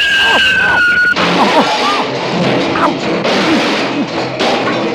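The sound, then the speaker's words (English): Santa's sleigh, guided by Rudolph the reindeer, crashes into a tree: a high, squealing whistle gives way to a sudden loud smash, then a long jumble of rattling, clattering and tumbling debris. “Uh-oh, Rudolph, watch out for that tree.”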